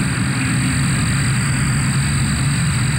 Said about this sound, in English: If you're new to the area and never experienced it, here's a quick sample of what cicadas sound like.